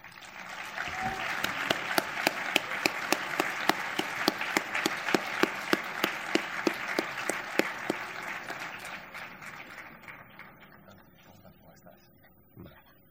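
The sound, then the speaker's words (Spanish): An audience at a film awards ceremony applauding steadily for the Cupra brand manager, who presents the best film award, dense clapping with a few sharper claps standing out, holding strong for several seconds before thinning out and fading near the end. “Sisplau, un fort aplaudiment a l'Ignasi Prieto, brand manager de Cupra.”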